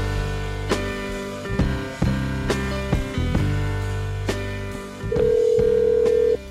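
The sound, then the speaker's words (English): A phone call being placed: a series of short dialing clicks over a steady electronic hum, then a loud, sustained dial tone for about a second near the end. No one speaks. “I'm Aaron Lammer in via phone. I'm assuming that is Max and Evan on the other end of this line.”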